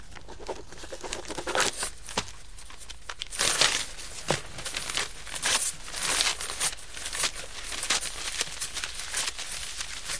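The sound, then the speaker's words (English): Paper crinkling and crumpling, with occasional tearing, in irregular bursts of crisp rustles as someone fiddles with it. It carries on steadily for about ten seconds with no one speaking. “She fiddles with the paper.”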